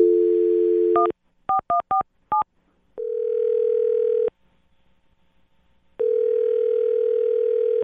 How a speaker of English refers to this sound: I'm going to dial her phone number right now and see if we can figure it out for you, okay? All right, man. All right, here we go.